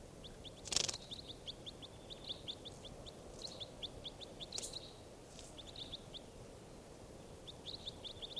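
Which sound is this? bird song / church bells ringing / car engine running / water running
bird song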